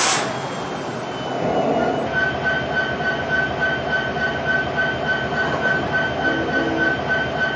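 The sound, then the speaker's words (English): A freight train rumbles steadily along the rails, a continuous low roar with metallic wheel whine and faint rhythmic clatter, no voices. “Southbound Z train to flag.”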